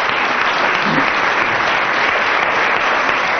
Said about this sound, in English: aided by approximately 10 minutes of applause from the audience, you only get 3 marks there